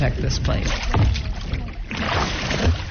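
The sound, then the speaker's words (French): At 8 a.m., water laps and sloshes steadily against about half a dozen small boats bobbing on Bunaken Bay in the shadow of the Manadotua volcano, with soft knocks and swells rising and falling, while faint voices murmur in the background. “Une demi-douzaine de bateaux oscillent sur la baie de Bunaken, à l'ombre du volcan Manadotua.”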